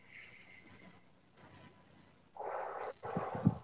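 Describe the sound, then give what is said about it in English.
A deep breath drawn in, then let out, each a rushing, airy sound, following a brief quiet stretch, during a guided exercise of three deep breaths. No one speaks. “So let's take three deep breaths.”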